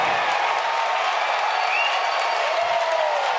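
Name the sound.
crowd cheering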